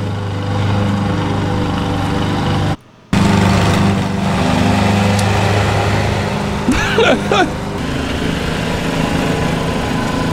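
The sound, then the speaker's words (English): A lawn mower engine drones steadily and loudly while mowing a lawn, cutting out for a split second early on before resuming, with a brief voice-like sound rising over it near the end. “This is if you forgot your lawnmower, dude.”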